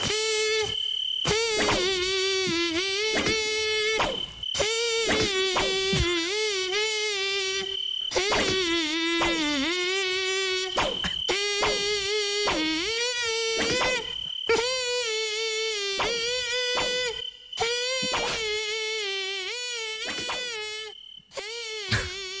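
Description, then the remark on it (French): A loud, mosquito-like buzz sings a song melody, its pitch sliding up and down through short phrases broken by brief pauses, with no one talking. “Allez, le moustique chante à vous de reconnaître la chanson”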